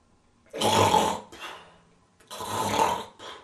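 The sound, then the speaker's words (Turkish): A person imitates loud snoring: two long, rasping inhales, each followed by a shorter breathy exhale, with no other talk. “Eğer duyan kulak olsaydı bu horlamayla kalkardı.”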